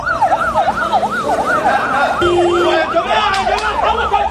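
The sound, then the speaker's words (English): A wailing ambulance siren sweeps up and down in a fast, repeating cycle, loud, over a busy background of traffic and crowd noise, at the Al-Wafa hospital in central Gaza, where a big crowd gathered at the entrance as a body was carried out on a stretcher into an ambulance. “Footage showed chaos and a big crowd gathered at the entrance of the hospital as a body was being pulled out on a stretcher and taken into an ambulance, with sirens sounding in the hospital vicinity.”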